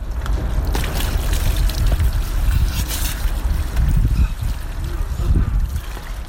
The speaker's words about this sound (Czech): Bio je to deo onoga što se može nazvati uobičajena jutarnja toaleta na jednom stepenu iznad nule ledenom vodom koja dotiče iz creva. Svakodnevna je obave stotine ljudi čiji je dom posljednjih mjeseci napušteno skladište.